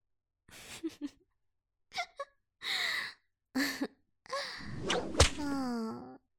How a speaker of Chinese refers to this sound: 好像每挨一鞭子，你嘴里都紧一下呢。